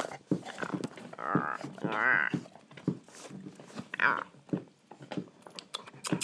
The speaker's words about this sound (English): You are such a funny, playful little puppy pup. Aren't you, yeah, but?